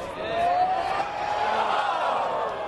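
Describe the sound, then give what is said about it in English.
A large crowd of more than 20,000 golf fans roars and cheers loudly after a tee shot at the 162-yard 16th hole of a PGA Tour event, a steady, dense wall of voices with a rising whistle cutting through early on, sustained across the whole moment. “And the crowd send-off for each tee shot sounds more like a kickoff at a football game.”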